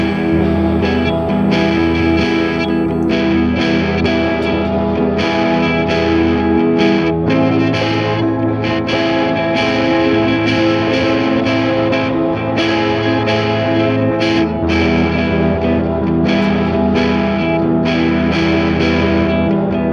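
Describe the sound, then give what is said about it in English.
Distorted electric guitars ring out with heavy effects, thick chorus-like shimmer and sustained, dense tones, playing steadily and loudly for the whole stretch with no voices. “We're going to listen to the guitars.”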